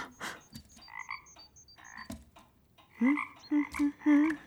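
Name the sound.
many frogs croaking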